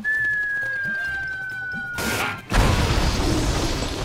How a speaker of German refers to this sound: Nee, ich wollte einfach nur mal zeigen, wie es klingt, wenn so ein Vogel explodiert im Film.